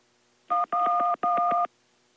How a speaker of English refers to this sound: Hello? Oh, the old dial tone, huh? Two can play at that game. Dial tone.